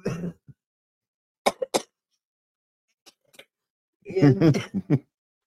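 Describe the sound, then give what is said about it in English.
Raspy coughs and throat clearing from a woman trying to resist a coughing fit, coming in short bursts, a sharp pair early on, then a longer, rougher fit near the end, with quiet gaps between. “trying to resist the coughing fit she's in the middle of.”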